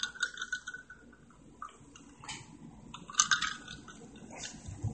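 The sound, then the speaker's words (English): Fizzy Red Bull energy drink crackles and hisses steadily, with a few soft clinks and knocks as a single ice cube bumps around in the liquid, the loudest rattle coming about two-thirds through. “The sounds of this Red Bull and that ice, one ice cube in there dancing around, just floating around in the bubbles of life.”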